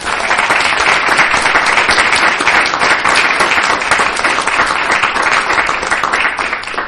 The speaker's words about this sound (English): So I did think if we could give all of our outgoing mayors a round of applause, I think that would be.